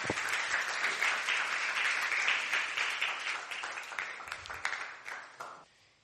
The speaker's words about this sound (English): Join us here at Last Adam Tabernacle as we bring Christ to the nation. Glory to God. Give us some a big hand clap.